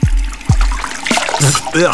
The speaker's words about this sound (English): Just listen to it. At the new Trax 101.9, we still drink water right out of the hose.